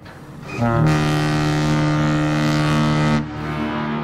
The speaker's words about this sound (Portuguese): Foram várias as pessoas esta semana que passou a queixar-se de uma buzina que se ouvia por toda a cidade de Lisboa ao longo da madrugada. O som era mais ou menos este.